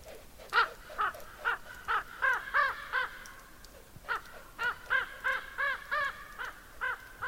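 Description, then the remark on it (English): Two ravens croak and call in a steady run of about twenty short, hoarse notes, each with a bright harmonic edge, pausing once midway before resuming, as they play and chase each other, doing rolls. No one speaks. “Two ravens seem to be playing, chasing each other, doing those rolls.”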